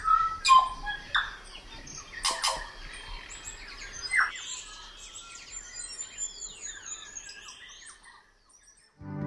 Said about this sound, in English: I'll leave you with birdsong from Nari Woods' native New Zealand